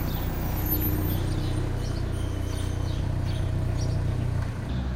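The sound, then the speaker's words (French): A car engine idles and rumbles steadily at low pitch as the vehicle reverses close by, with faint bird chirps flickering above; the engine noise briefly dips near the end. “Donc on l'entend, les automobilistes mettent un point d'honneur à venir vous saluer, à faire une petite marche arrière à côté de là où on est installé.”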